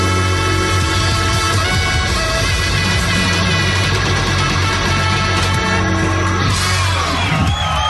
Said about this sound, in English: Crowd goes wild with delirious joy.